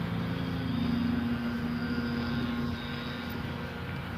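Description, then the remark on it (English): Two men of a yard crew working on the plantings along a fence line run leaf blowers, roaring in a steady, loud mechanical drone with a low humming tone beneath a broad rushing hiss, holding nearly constant throughout with no talking. “Two guys with leaf blowers.”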